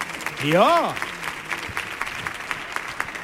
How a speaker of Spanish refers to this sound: Otro aplauso para Maui de Cabi y para Chema Tagua, claro.